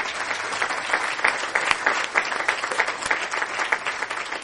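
An audience claps steadily in a dense, continuous patter of many hands, holding a fairly even loudness for several seconds with no voices over it.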